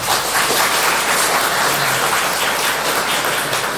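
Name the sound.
audience applause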